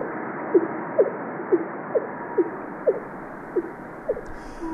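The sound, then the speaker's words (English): Fin whale calls: a steady series of about ten short, low, thumping pulses, evenly spaced roughly every half second, over a constant rushing hiss of background noise. No voices. “Many thousands of whale calls. Also on the fin whale, which is sort of a boom, boom.”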